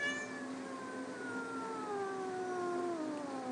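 A female cat lets out one long, drawn-out, complaining meow that wavers and slowly falls in pitch, fairly loud, with no talking over it.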